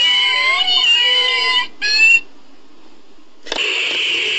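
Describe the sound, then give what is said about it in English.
A dense chorus of about 1,000 kittens meowing and yowling at once for about two seconds after a big red button is pushed, cutting off abruptly, followed by silence and then a steady, loud hiss. “1,000 kittens have just been killed as a result of you pushing the big red button.”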